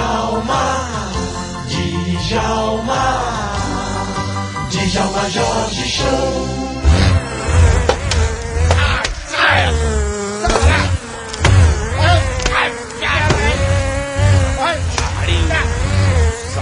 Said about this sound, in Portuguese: Calma, amigo, estamos sendo invadidos por abelhas.